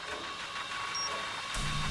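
A telescope's alpha axis motor whirs steadily with a mechanical, printer-like hum, a faint high whine briefly appearing, then a deeper rumble kicking in near the end as the movement shifts.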